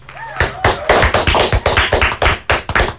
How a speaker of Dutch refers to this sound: heb jij applaus klaarstaan alsjeblieft?